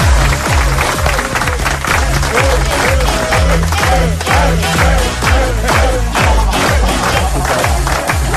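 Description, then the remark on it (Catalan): Loud crowd applause and cheering greeting a guest on a show runs continuously over a steady, thumping music beat, with no pause for the whole stretch. “Bé, entrant en matèria, deixeu-me saludar amb un fort aplaudiment”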